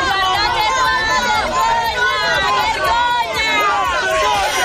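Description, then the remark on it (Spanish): A large crowd boos and jeers politicians, including then prime minister Enrico Letta and Commission president Durão Barroso, loudly and continuously, many overlapping voices rising and falling together in a dense, sustained roar of disapproval. “los abucheos a los políticos, al entonces primer ministro Enrico Letta o al presidente de la Comisión Durão Barroso”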